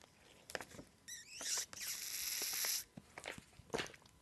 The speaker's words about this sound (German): Capri-Sonne, nervigstes Geräusch mit ihrem und so, das Knistern.